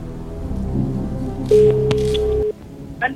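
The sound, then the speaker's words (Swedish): A single steady telephone tone sounds for about a second as a call is placed to a friend on the quiz show Postkodmiljonären, clear and fairly loud, over a low bed of background music, with a faint click just after it stops. “Jag ska prova att ringa en vän då.”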